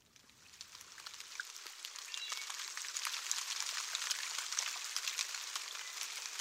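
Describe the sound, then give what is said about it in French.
Steady rain of the rainy season falling, a dense hiss of countless drops with occasional sharper patters, building slightly after the first second and then holding even. “Voilà. Il pleut. La saison des pluies.”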